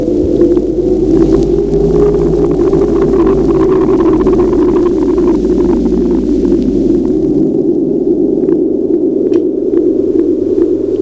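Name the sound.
wind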